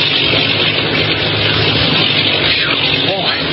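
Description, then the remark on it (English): A low-flying bomber plane, one of ten bombing planes, roars overhead, a loud, steady drone with a deep rumbling throb that holds constant without fading. “That plane's flying pretty low.”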